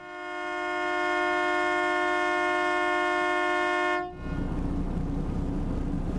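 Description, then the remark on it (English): A single long, steady horn blast, sounded to hail the crew of a ship stranded with its sailors on board, with a rich, buzzy tone. It holds loud for about four seconds, then cuts off abruptly into a broad, rushing rumble of engine or wind noise. “We've tried ringing on the phone to get on the boat, but that didn't work, so Ross has just hit the horn.”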